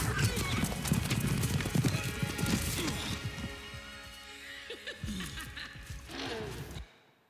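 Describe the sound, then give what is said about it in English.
Loud horse hooves clop in a steady, rapid rhythm, punctuated by a whinny, with the trampling easing briefly before picking up again and then stopping abruptly, as Jake Sully rides a horse he has just bonded with. “So did you notice this first time Jake Sully made a bond with a horse? His eyes widened, and so did the horse's.”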